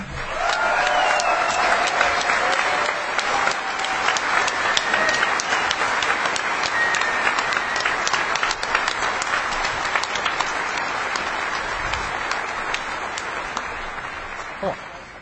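A crowd breaks into sustained applause, dense overlapping claps holding steady at a strong level for about fifteen seconds before tapering slightly at the end.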